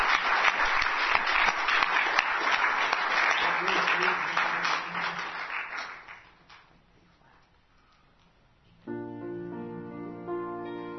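A crowd claps loudly in a dense, sustained burst of applause given as a hand clap of praise to the Lord at the end of a church service, tapering off around six seconds, followed by a quiet pause and then organ-like sustained musical chords.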